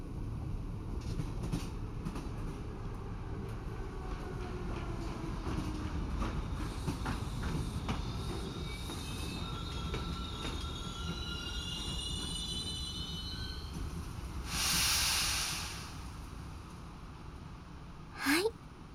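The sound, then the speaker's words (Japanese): The Akatsuki sleeper train rolls in over steady low rumble, its wheels letting out long, wavering high-pitched squeals, then a sharp hiss of air and a short final screech as it stops. “到着です。それでは寝台車へと移動しましょう。”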